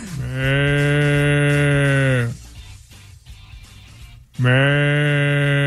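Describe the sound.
A voice imitates a water buffalo with two long, low, droning moos, each held steady and loud, separated by a short pause of quiet breathy noise.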